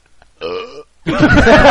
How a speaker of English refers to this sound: What was that? Wow. He says in retort. You know, this is, we would stop belching